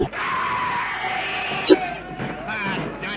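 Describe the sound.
A crowd of many voices screams and yells together in a dense, continuous roar that sounds close and loud, with one sharp peak partway through as the mass of cries surges forward.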